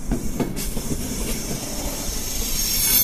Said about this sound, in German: Zürich ist ein Kopfbahnhof. Der Zug wechselt ein letztes Mal die Fahrtrichtung. Das hat er in Basel und in Frankfurt am Main auch schon gemacht. Und dann wird er auf ein Abstellgleis gezogen.